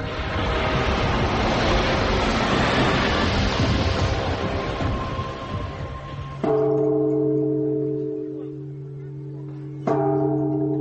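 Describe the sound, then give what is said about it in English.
A large bell at a temple dedicated to Meng Chengnu, rung by pilgrims, is struck twice, each hit leaving a deep, humming resonance that slowly fades, after several seconds of loud, rumbling background noise. “Here, pilgrims come to ring the bell for good luck and offer a prayer in front of her statue.”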